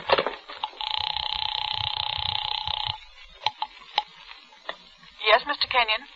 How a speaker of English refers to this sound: The house phone.